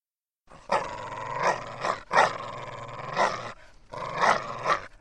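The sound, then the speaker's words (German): A dog growls and snarls as a warning in three long, rumbling bursts separated by brief pauses, fairly loud with no one talking. “Wenn Hunde die Zähne zeigen, dann heißt das Achtung. Sie wollen uns warnen.”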